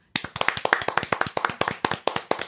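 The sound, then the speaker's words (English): Hands clap in a quick, steady run of sharp, loud, dry slaps, like a small group applauding for a couple of seconds with no voices. “No, you get the big clap.”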